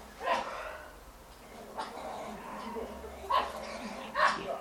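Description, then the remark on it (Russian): Several dogs outside a window bark and yap in short, scrappy bursts, sounding like a squabble, with a low background hum throughout. “Серьезные собачки за окном с разборками.”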